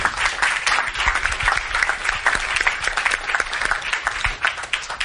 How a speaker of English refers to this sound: Please, a round of applause for that team, please.